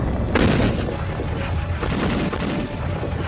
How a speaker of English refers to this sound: Heavy, heavy, heavy artillery fire. There's no doubt that it was the beginning of an attack.